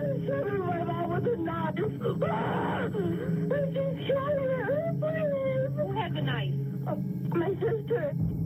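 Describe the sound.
A person screams and wails in distress over a muffled telephone line on a 911 emergency call to the Willoughby Hills police station on 16 November, the cries rising and falling in long wavering bursts mixed with other voices, steady and fairly loud throughout.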